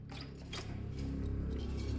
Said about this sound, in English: She looks anxiously at the door as the handle starts to turn.